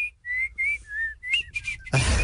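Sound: person whistling a tune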